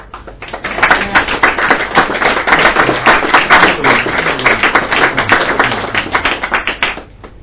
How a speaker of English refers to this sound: So I take it from the claps that you like the ones, but you don't like the other ones.